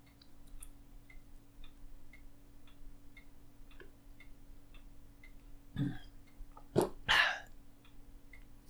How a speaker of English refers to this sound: Ooh, needed a big swig of water there, because here we go.